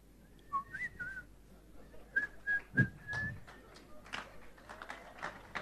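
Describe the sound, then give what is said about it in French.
A person whistles a short, wavering tune in bright sliding notes, with a pause between phrases, over a murmur of background noise and faint voices. “Mais maintenant, tu mens et puis tu siffles.”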